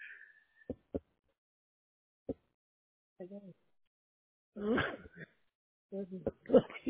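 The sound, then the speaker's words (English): A single sharp sneeze bursts out midway, fairly loud, preceded by a few faint clicks and followed by someone briefly speaking. “Bless you.”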